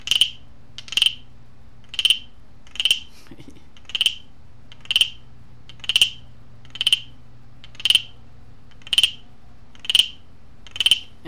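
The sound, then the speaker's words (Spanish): A crafted instrument gives a frog-like call: about a dozen sharp, raspy, ratchety croaks in a steady rhythm, each roughly a second apart, over a low constant hum. “Escuchen este sonido, que casi igualito al parecido de la rana.”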